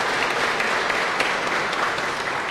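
A crowd claps steadily and densely for a few seconds, the applause close and fairly loud with no single claps standing out and no voices on top.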